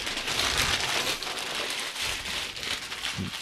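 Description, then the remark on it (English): Continuous crinkling and rustling of packing paper as a shipped box marked fragile is opened, fairly steady, with a few soft thumps near the end as the package is handled. No one speaks. “He's opening the box.”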